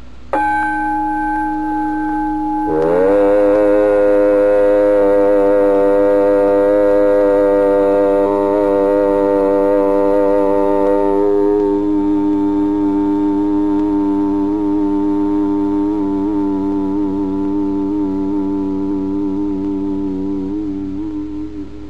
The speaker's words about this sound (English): Chief of these is the syllable Om, or Aum, called the pranava, or the sound of God, because it involves the whole range of the voice from the back of the throat to the lips. Take the tone from the gong and hum it with me.